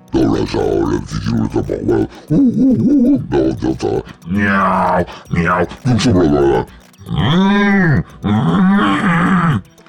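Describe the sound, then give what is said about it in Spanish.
A voice imitates an elephant with a run of loud bursts of grunting and trumpet-like calls, rising and falling in pitch, separated by short pauses. “Ah, … prefiere los elefantes.”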